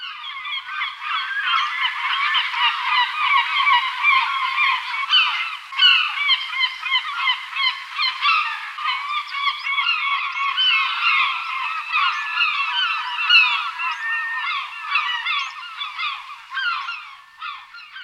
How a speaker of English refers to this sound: If it sounds like the beginning of Desert Island Discs, you're listening to Herring Gull.